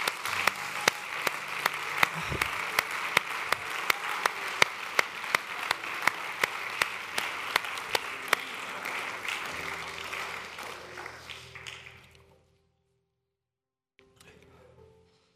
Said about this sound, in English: Can we give him a hand clap right now?